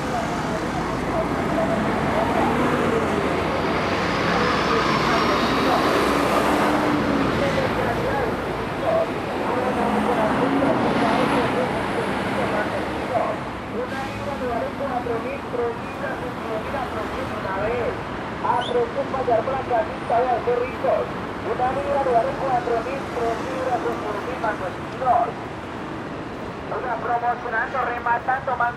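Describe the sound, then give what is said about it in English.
Busy rush-hour traffic on a main street in Bogotá roars steadily and loudly, with the heavy engines of massive TransMilenio buses rumbling and indistinct voices murmuring through the din in the later half. “The very loud buses you hear, the Transmilenio buses, which are, you know, it's like a, they're just massive buses, usually at this time packed with people, so you can barely get on there.”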